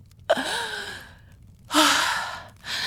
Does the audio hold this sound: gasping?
yes